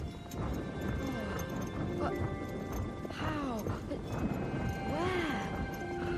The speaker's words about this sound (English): And now Will and the horse were galloping above the curving slopes of the Chiltern Hills, capped with great trees, beech, oak and ash.